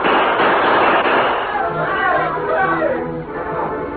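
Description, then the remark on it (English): A rapid burst of revolver gunshots, fired around midnight to drive attackers off a sod roof, crackles loudly at the start, blurring into a dense clatter, then fades as several voices talk and shout over the noise. “The masked man's gunfire drove the Indians off the roof, but only for a few moments.”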